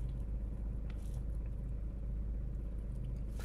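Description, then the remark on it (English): A car's heater fan runs steadily inside the cabin of a car parked just outside a house, warming the car up: a constant low rumbling whoosh that never changes in level, with faint small clicks and no voices. “Because I have taken voice isolation off, but that means you're going to hear the fan in the background and all sorts of things now.”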